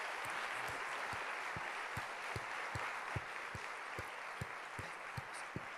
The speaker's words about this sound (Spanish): Dale gloria al Señor. Levanta un fuerte aplauso dándole gloria al Señor.